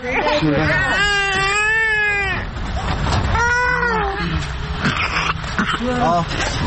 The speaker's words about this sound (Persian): صدای نوزادی است که در استان حلب در شمال سوریه زیر آوار مانده بود. امداد رسانان او را از آغوش بیجان مادرش بیرون آوردند.